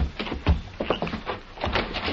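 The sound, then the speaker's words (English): A house door on a mountain opens with a run of clattering, scraping mechanical noises and a low thump early on, the rattles continuing unevenly at moderate loudness for about two seconds. “Open the door. You go in first.”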